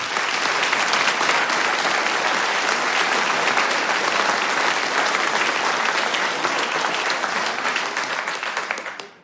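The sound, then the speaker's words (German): A large audience claps steadily and loudly for several seconds for the youngest in the group, a farmhand who will play music, a dense, continuous patter of many hands that holds its level before tapering off at the very end. “Und weil er der Jüngste ist in der Runde, gehört ihm einmal ein extra Applaus.”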